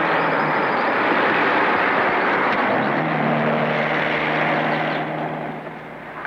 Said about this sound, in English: Here's some romantic sparring from the famous hitchhiking scene. Here comes a car.